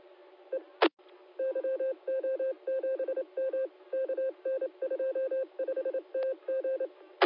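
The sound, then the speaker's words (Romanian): A telephone sounds, sending out rapid bursts of electronic tones grouped into short repeating clusters, fairly steady and clear, with a couple of sharp clicks near the start and end and no talking. “Secunde că sună un telefon, te-a pic.”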